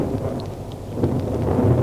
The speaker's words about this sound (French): Il fait particulièrement chaud. On entend surtout le tonnerre, mais rien de plus.